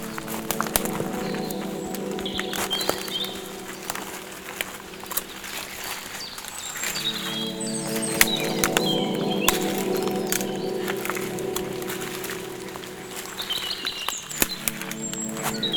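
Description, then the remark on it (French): Birds sing and chirp steadily in a forest under tree cover through a wet, pattering backdrop of rain, their calls bright, repeating in short bursts over the continuous drizzle, with occasional soft crackling sounds. “Et les oiseaux se moquent de la pluie.”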